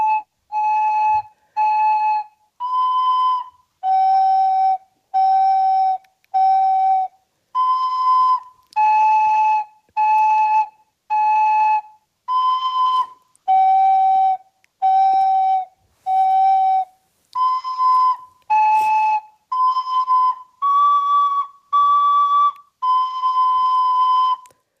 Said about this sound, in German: Und magst du uns mal ein paar Töne vorspielen? Liegt die Blockflöte bei dir irgendwo in der Nähe? Ja. Dann spiel doch mal ein paar Töne an, damit wir alle wissen, wie klingt denn so eine Blockflöte überhaupt. Wow.